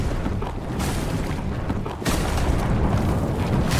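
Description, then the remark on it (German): A heavy boulder breaks loose and rolls down a mountain in a loud, continuous rumble, deep, creaking and grinding, swelling into a fuller roar partway through. No one speaks. “Der Stein rollt den Berg hinab.”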